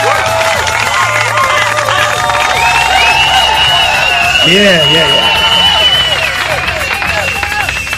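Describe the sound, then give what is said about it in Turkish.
A crowd applauds the administrators of Gesweb steadily for several seconds, dense clapping mixed with overlapping cheers and shouting voices, holding loud and even throughout before easing slightly at the end. “Onlara bir alkış koyuyoruz o zaman.”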